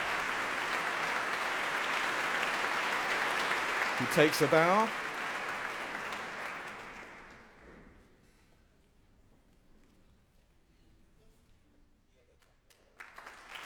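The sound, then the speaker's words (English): A concert audience applauds the orchestra's leader, Gordon Nikolich, steadily in a dense wash of clapping that fades out over several seconds, while a man speaks briefly over it. “Well, that applause is for the orchestra's leader, Gordon Nikolich.”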